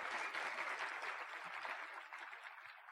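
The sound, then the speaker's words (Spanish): Sustained applause from a crowd clapping for themselves, a dense wash of many hands clapping at once, steady and fairly loud, tapering slightly toward the end. “así que yo quiero que el aplauso sea para ustedes, pero así que se oiga, eso, gracias.”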